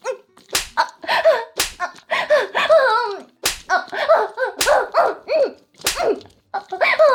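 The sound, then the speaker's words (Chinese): Five sharp hand slaps on a woman's buttocks land at uneven intervals, each a crisp smack, with her voice making drawn-out vocal sounds in between. A man spanks her during sex while she is on a bed. “少爷还在打我，一边打着我大屁股”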